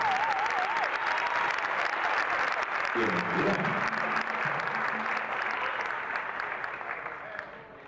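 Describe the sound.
A crowd breaks into loud, sustained applause that holds steady for several seconds before thinning toward the end, with a voice faintly audible beneath the clapping partway through.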